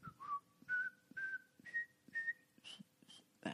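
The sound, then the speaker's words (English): A person whistles a short tune, holding a series of steady notes that step gradually higher, with soft breathy puffs between phrases and no talking. “And then the dude would just start whistling.”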